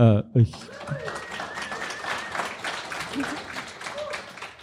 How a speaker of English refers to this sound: Who gives a round of applause for philosophers.